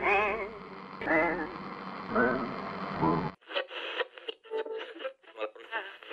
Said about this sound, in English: We've cut through the static. The signal is clear and strong.